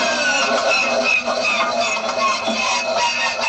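The Millennium Falcon's hyperdrive sputtering and failing, from The Empire Strikes Back, made by combining 8 recordings, including a vintage biplane starter, hissing air from dental equipment, an arclight motor, a tank turret motor and groaning old pipes: a loud, dense mechanical drone layered with hiss, rattling and wavering whining tones, continuous for a few seconds with no voices.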